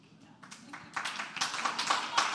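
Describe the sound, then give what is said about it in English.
An audience claps in a dense, irregular patter that starts scattered and quiet, then swells into fuller, louder applause over a couple of seconds. “Don't clap.”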